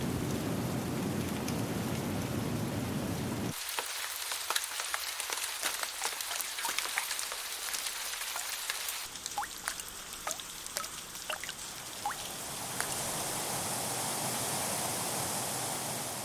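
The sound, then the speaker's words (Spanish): Heavy tropical downpour drenching a jungle, a steady dense roar of rain with crisp individual drops spattering, the texture shifting a few times as the rain pours on without any voices. “La humedad está siempre presente en forma de lluvias torrenciales, de tormentas, de brumas o de nieblas.”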